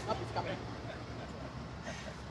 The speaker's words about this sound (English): We did not schedule the train to go by.